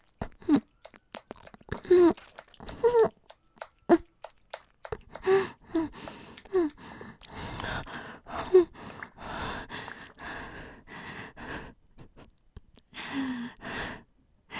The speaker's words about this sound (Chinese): 学的挺快的嘛，现在喘气不是很自如。